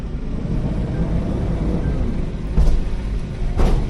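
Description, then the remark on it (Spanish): A steady, heavy low rumble of idling truck engines, broken by two sharp metallic clunks a second apart, as trucks are loaded with goods for other European countries at an industrial estate on the outskirts of Tudela. “Llegan a Reino Unido, a Noruega, muchos camiones se cargan aquí, en un polígono a las afueras de Tudela.”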